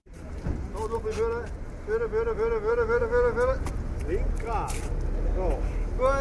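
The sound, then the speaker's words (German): Old car engines rumble and idle steadily throughout at the open race track in Oerlikon, a thick low drone with occasional revving, while indistinct voices carry in the background as the cars are readied on the flat infield in sweltering heat. “In der Mitte, dort wo es flach ist, macht man in der brütigen Hitze die Auto und die TÜV parat.”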